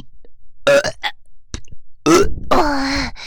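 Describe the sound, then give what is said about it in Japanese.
A few loud burps: a short voiced belch, a couple of brief croaky bursts, then a long drawn-out rumbling burp that wavers before trailing off. “またゲップいっぱい出してあげるね。”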